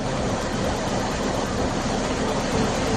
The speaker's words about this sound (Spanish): Es el agua, la tromba de agua que se está trasvasando desde este martes de Entre Peñas a Buendía. Por el canal que une ambos pantanos está discurriendo una lámina libre de 40 metros cúbicos por segundo. Algo así no se veía desde 1997.